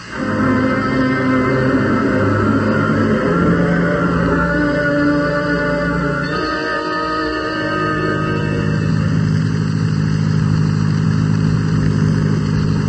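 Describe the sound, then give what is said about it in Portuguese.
A car engine runs loudly, revving with a shift in pitch about halfway through as the vehicle seems to pull away, continuing steadily to the end with no talking. “Bom, vamos para o carro.”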